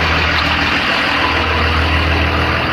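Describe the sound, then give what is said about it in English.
A school bus's large diesel engine idles steadily, a constant low rumble with a broad mechanical roar that never changes over the few seconds, with no voices. “School bus.”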